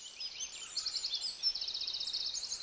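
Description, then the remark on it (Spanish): A small bird sings a bright, high-pitched song of rapid trilling phrases that run on continuously, with no voices present. “Donde nosotros estamos, hay por tiempos que suena un pajarito con un canto muy bonito.”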